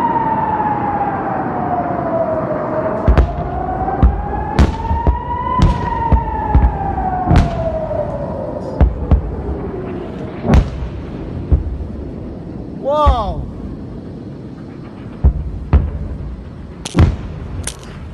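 A rocket attack warning siren in Israel wails in a slow rise and fall as rockets fired by Hamas from Gaza rain down on southern Israel, while sharp explosive booms and thuds punctuate it irregularly throughout, with no voices.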